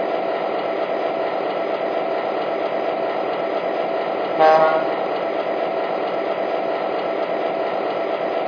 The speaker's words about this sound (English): Now arriving from Los Angeles on track 1, train number 124, the Grand Canyon.